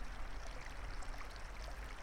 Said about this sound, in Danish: I den her behagelige lysning er der et lille vandløb, som du lige nu kan lytte til. Vandløbet giver en beroligende indre tilstand, og også med til, at du kan fornemme den rensende effekt, vand kan have.